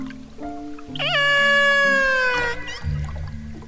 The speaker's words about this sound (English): Just by listening to Dan's recording of the whale's call, the orca researchers knew exactly which pod the killer whale belonged to. Out of 30 different pods in the Gulf of Alaska, that's over 900 whales.